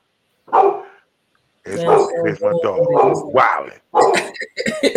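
dog barking and whimpering

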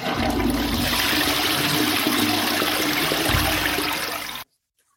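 toilet flushing

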